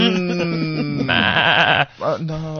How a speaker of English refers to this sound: Some stray sheep stuck in a fence.